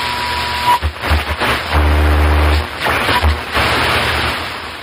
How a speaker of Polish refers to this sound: Włączasz radio. Przełączasz na krótkie fale. Szukasz jakiejś radiostacji.